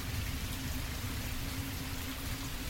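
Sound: steady rain falling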